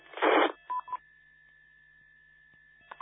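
A burst of static-like noise, then a few short electronic beeps from a radio repeater, a steady faint tone holding through a quiet stretch, and another beep at the end.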